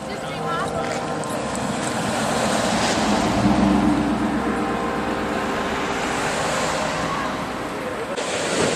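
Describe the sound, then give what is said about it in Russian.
A steady, broad wash of ocean surf rolls along a beach where people walk, swelling slightly in the middle, with muffled voices faintly present beneath the continuous roar. “И все это на берегу океана, где люди гуляют.”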